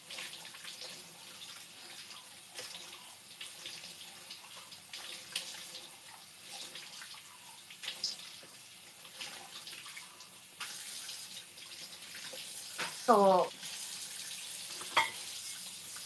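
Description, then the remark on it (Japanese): A kitchen tap runs steadily while a glass used for drinking tea is rinsed under it, with a short squeak of glass near the end and a faint clink shortly after. No one speaks. “なんかね、もう皿洗いとかするわ。なんか作業の時に飲んでたお茶とかのグラスを無意味にとりあえず一回洗ったりする。”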